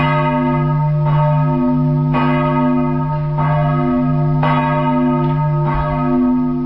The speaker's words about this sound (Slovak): Najväčší z nich, zvon apoštolov svätého Petra a Pavla, má dolný priemer 153,5 cm, výšku 142 cm a váhu vyše 2,5 tony. Úderový tón je C1.